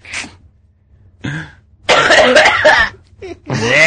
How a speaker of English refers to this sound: That's a sneeze.